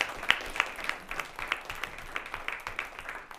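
A short round of applause from a small group for the chief of staff, with sharp, fairly quiet claps pattering at an uneven rhythm for a few seconds, without any voices.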